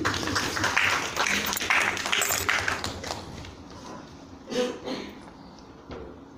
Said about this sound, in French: Applaudissez